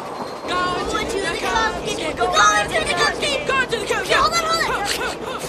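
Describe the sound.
An elevated train rumbles along steadily, a loud continuous mechanical din, while several people, including three boys riding it, talk and chatter over it.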